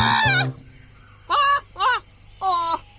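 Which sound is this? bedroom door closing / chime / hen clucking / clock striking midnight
hen clucking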